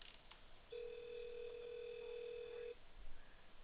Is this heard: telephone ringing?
yes